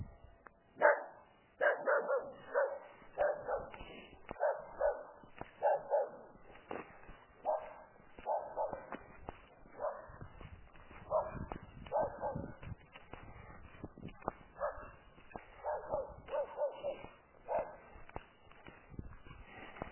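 A puppy barks over and over in quick, yappy bursts, with a few whiny yips mixed in, continuing irregularly throughout with no one talking.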